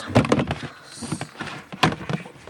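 A closet door opens with a couple of sharp wooden knocks and thumps, separated by a brief pause and some soft creaking and shuffling in between; the closet door opens into a smaller door leading to a tiny room.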